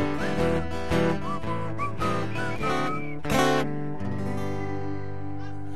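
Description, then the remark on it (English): People whistle a bouncy tune in short rising phrases, riding over a full band playing loudly underneath, with no talking. “I need whistlers, though. You've got to whistle. It requires whistling.”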